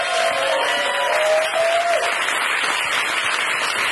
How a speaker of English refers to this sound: One more round of applause for all of my guests,